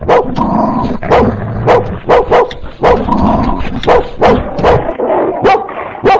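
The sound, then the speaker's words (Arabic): A dog barks loudly and repeatedly, sharp rapid barks coming in quick bursts with brief yelps mixed in, continuing throughout. “يا إلهي، كل ده كلب.”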